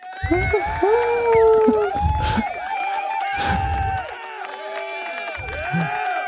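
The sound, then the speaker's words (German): A recorded applause sound effect played from a device: a crowd cheers and shouts in a loud, sustained roar, with high whoops rising and falling throughout. Bursts of clapping surge in several times and keep the level high for about six seconds. “Haben wir so Applaus auf diesen Dingern?”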